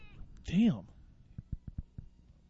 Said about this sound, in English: What the hell is that? That's a cat. God damn.